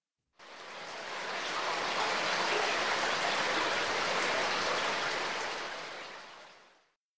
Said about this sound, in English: Water was leaking out.